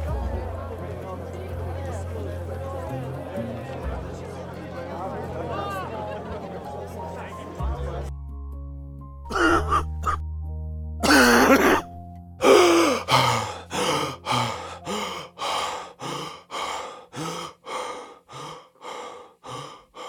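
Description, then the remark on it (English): A man coughs and struggles for air: harsh, strained gasps come in a steady run of loud bursts that gradually weaken, following a stretch of murky background noise and low hum. “He was coughing all night, struggling to breathe.”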